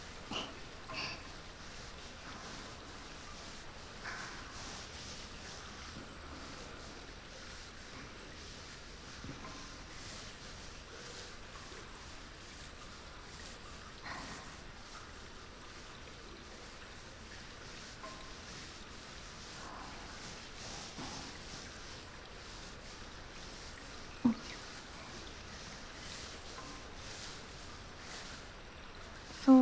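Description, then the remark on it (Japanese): Steady soft squishing and crackling as shampoo is lathered into a thick, fluffy foam, a continuous wet fizz with a few faint clicks and pops scattered throughout, no voices. “これをモコモコにしていきます。”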